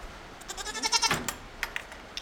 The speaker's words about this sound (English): Cats are at friends' homes, dogs in hotel rooms, parrots in hotel rooms, a pair of pygmy goats in a vacant aviary.